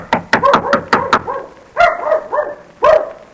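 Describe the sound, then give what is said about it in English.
A quick run of sharp knocks is followed by a dog barking four times, the barks loud and evenly spaced, with no talking. “Oh, that sounds like Mickey barking.”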